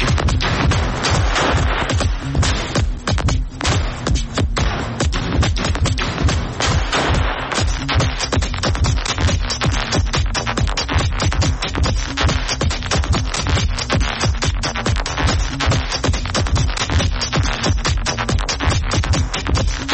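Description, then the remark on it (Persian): Loud, dense clanging and banging in a music track, sounding like lumber or iron being unloaded in a large open storage yard, with rapid percussive hits crowding together continuously over a steady low hum. No one speaks. “مثلا دقت کنید به این صداهایی که انگار از خالی کردن بار الوار یا آهن تو فضای باز و بزرگی انبار به وجود اومدن.”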